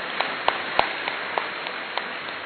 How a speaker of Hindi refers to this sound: तो इसलिए ये सेंचुरी दादी जी के साथ विश्वविद्यालय की भी और हम सब की भी है, तो अपनी सेंचुरी लगाने की खुशी में जोरदार ताली बजाइए।